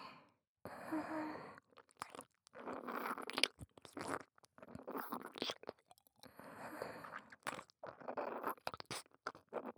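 Wet mouth sounds of someone licking the right ear, with slurps and soft smacks repeating in irregular bursts, intimate, separated by brief quiet gaps.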